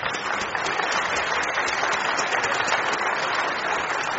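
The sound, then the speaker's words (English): A crowd applauds steadily, the dense crackle of many hands clapping holding an even level throughout with no voices standing out. “Round of applause, folks.”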